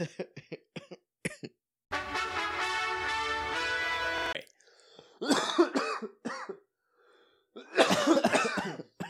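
Wet coughing and harsh throat clearing: a quick series of short hacks, then a long rasping clear of the throat, followed by more loud phlegmy coughing bursts separated by brief pauses.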